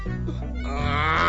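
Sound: donkey braying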